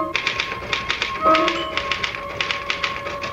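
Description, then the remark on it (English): Rapid, uneven clatter of typewriter keys struck one after another as someone quickly types out a thought, moderately loud, with a brief bell-like ring and carriage sound partway through. “Can I use the typewriter for a moment? I just got to put one thought down before I forget it.”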